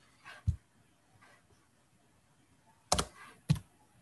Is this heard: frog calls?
no